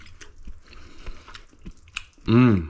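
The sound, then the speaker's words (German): Soft squishy chewing of thinly sliced dumplings, with a few moist bites and mouth clicks over about two seconds, then someone lets out a loud appreciative hum. “Und dann lass uns doch einfach mal reinbeißen, wie das Ganze schmeckt.”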